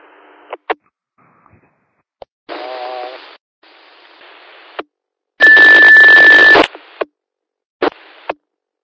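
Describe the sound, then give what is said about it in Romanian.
Amateur radio test signal sent as separate bursts: crackly static segments with sharp clicks between them, then a loud, harsh block of noise carrying a steady mid-pitched tone. No one speaks. “Pulsatoarea e bună, dar auzi, am și o rugăminte.”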